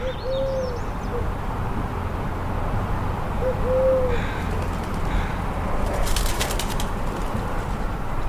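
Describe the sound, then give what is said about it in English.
A collared dove coos twice, soft hollow notes a few seconds apart, over a steady outdoor background hiss, with a brief rustling flutter near the end; early morning in Sitka, Alaska, during a June heat wave, heard through an open window. “On day three, I was sleeping with the window open early one morning during Alaska's June heat wave when the collared dove came to me.”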